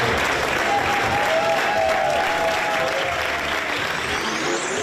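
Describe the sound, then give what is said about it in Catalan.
Sustained applause from a crowd, an ovation for politician Proens at the Popular Party headquarters, a dense steady wash of clapping that holds loud and even throughout, with a faint whistle-like tone briefly audible within it. “Emocionada, Proens ha seguit el recorregut cap a la seu dels populars, on continuava l'ovació.”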